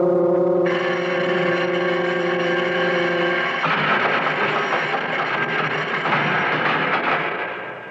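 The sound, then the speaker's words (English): A loud prison bell rings continuously with a harsh, steady, buzzing tone, then gives way to a rougher clanging clatter that holds until it fades slightly at the end. No one speaks. “The bell. It jars you, huh? Well, it's awful loud.”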